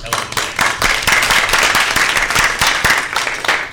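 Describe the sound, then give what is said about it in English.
A round of applause from a group at a meeting, applauding work on adding board members: dense, steady clapping that fills the whole stretch at an even, fairly loud level, with sharp individual claps standing out now and then. “I think we should give another round of applause.”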